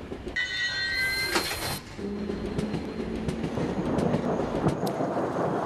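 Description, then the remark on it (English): A train rumbles steadily along the rails, with a high metallic squeal early on, then a continuous low clatter and scattered clicks of the wheels. No one speaks. “Then Timmy goes by train.”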